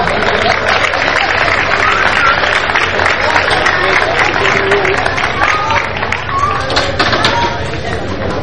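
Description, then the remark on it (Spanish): A crowd claps steadily throughout for the Atlético Deportivo Pájara team and its directors, a dense wash of applause mixed with loud chatter and cheering voices, filling the whole stretch without a break. “¡Un aplauso!”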